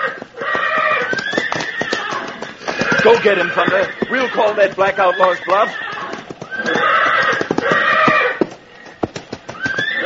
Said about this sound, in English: Oh, there, Thunder. Seems our friend the stallion is on the warpath. Right now, easy now, Thunder.